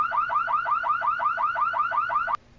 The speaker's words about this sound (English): My alarm doesn't do that. That's not your alarm.